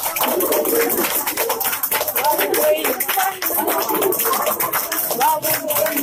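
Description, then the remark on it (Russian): Steady, dense applause in a Russian court building in Moscow, greeting three servicemen wounded when the FSB seized Ukrainian ships off Crimea: many hands clapping in a fast, uneven patter at constant loudness, with faint voices and calls mixed in underneath. “Ну, а трех военных, получивших ранения во время захвата ФСБ украинских кораблей у берегов Крыма в здании российского суда встретили аплодисментами.”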